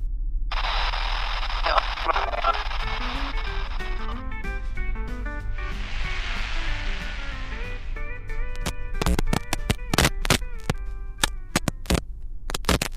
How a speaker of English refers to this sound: Did y'all hear that? Like a... Static? On the radio?